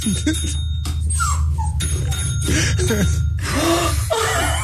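A dog whimpers and whines to go outside in a string of short, high, sliding cries over a steady low background hum, with a few sharper yips mixed in.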